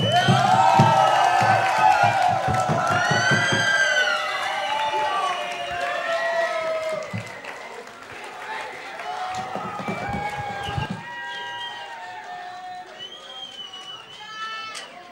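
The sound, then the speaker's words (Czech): A crowd applauds and cheers, with many overlapping whoops and shouts over a dense clatter of clapping. It is loudest at the start and then gradually thins out. “Ještě jednou aplaus, prosím.”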